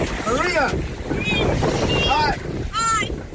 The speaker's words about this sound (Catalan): El vídeo mostra el moment en què Corina Machado es troba amb l'embarcació que la rescata de nit a alta mar